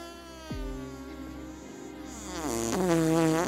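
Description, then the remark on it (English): A long, buzzy fart sound effect rasps for about three seconds, its pitch sliding and wobbling before swelling louder near the end, with no talking. “And before she knew it, she farted.”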